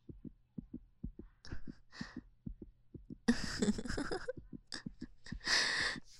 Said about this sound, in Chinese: 真是呢，跟嫂子牵手就会心跳加速啊。